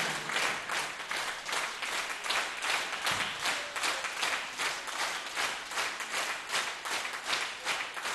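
A crowd claps steadily and warmly for several seconds, a dense, continuous wash of many hands with a slight rhythmic pulse, even in loudness throughout.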